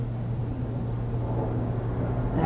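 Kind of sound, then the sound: vehicle, airplane flying overhead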